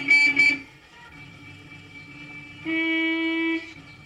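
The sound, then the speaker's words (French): A car horn honks in short bursts in a street scene of a Fritz Lang film: two quick toots, a sustained blare lasting about a second, then silence. The tone is loud, with steady harmonic pitch over faint background noise. “Fritz Lang réintroduit l'idée du danger sur un klaxon.”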